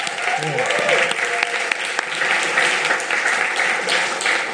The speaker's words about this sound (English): Could we have another applause for our worship team?